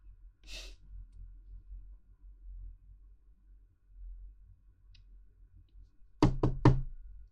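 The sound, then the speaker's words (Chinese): Three quick, firm knocks on a door by someone arriving, fairly loud, come near the end after a long stretch of quiet hum, with one softer brushing thud early on. “他来了，我去开门。”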